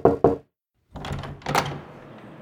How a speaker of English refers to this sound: Knock, knock. Who's there?